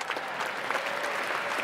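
A standing ovation from a large crowd during a speech, a dense steady wash of many hands clapping at once with no pauses, fairly loud and even throughout.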